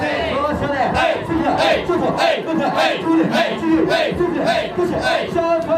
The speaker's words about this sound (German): So als wäre plötzlich ein Schalter umgelegt, rauscht eine ganze Gruppe von Hosts aus allen Ecken herbei und tänzelt, klatscht in die Hände.